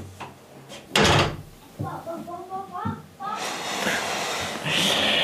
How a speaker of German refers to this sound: Tür zu.